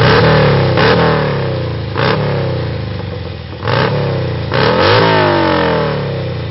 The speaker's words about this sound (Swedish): hitta Loud Motorcycle, något liknande, lägga in bara 10 sekunder så man bara hamnar i den, återigen, ambiansen som man befinner sig i när man står i närheten av sån motorcykel.